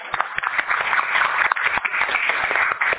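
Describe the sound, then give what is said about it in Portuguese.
A crowd at a council meeting applauds the newly composed presidency slate, many hands clapping in a dense, continuous patter with sharper individual claps standing out, no voices heard. “Peço uma salva de palmas, então.”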